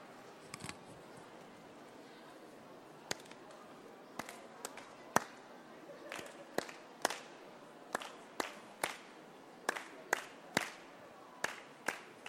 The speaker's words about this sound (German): Machen wir eine kleine, wenn Sie mitmachen möchten, eine kleine Rhythmusübung, indem wir einen Rhythmus klatschen.